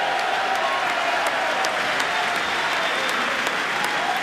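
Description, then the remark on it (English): Sustained applause and cheering from Republican members in a legislative chamber during a joint session, a steady dense wash of clapping at fairly high volume with crowd voices mixed in, no pauses throughout. “That getting a cheer now from Republicans in the chamber.”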